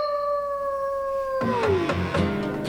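A long, steady dog howl holds its pitch, then slides downward into three or four sharp barks, all set against a musical backing recorded in a song.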